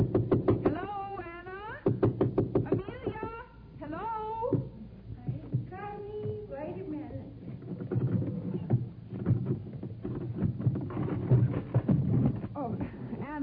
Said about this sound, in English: Well, sometimes you have to knock and call out to them at the same time. Let me try.